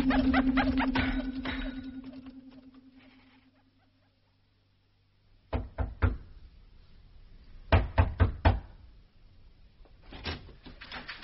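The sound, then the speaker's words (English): Knocking on a door in short bursts of sharp raps: a pair, then a quicker cluster of four, then another pair, after a low humming drone fades into silence. “Why can't you young people learn to knock? But I did.”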